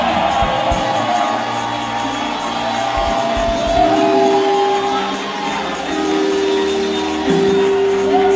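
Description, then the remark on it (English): A large audience shouts a loud amen together in a sustained roar lasting several seconds, with steady musical tones held underneath the crowd noise. “Somebody help me scream a loud amen.”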